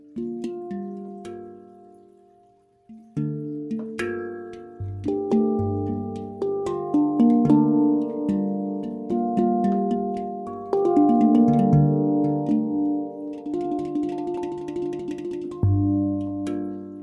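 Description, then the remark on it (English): A handpan plays a flowing melody of struck, ringing metallic notes that bloom and sustain, overlapping into warm harmonic chords, with a brief quiet dip before the playing resumes steadily and fairly loud. “As we immerse ourselves in this live performance, let the fusion of the Ku handpan's celestial melodies and the earthly tones of the Pygmy Crystal Scale guide you into a space where the physical and spiritual merge”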